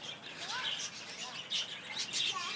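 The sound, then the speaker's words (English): Dense, continuous chatter of many small birds, zebra finches and budgerigars, with overlapping high-pitched chirps and tweets in a caged aviary, occasional louder bursts rising above the steady twittering. “I'm standing in a caged aviary kind of place, and at the moment they look like lots and lots of zebra finches and budgerigars.”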